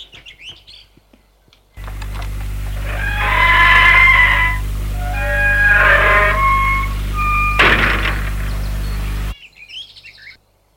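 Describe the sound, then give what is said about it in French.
A house's front door latch releases with a steady electric buzz lasting several seconds, with warbling chirpy tones over it and a sharp click near the end, fairly loud, with no one talking. “Et le déclic de la porte d'entrée se fait entendre.”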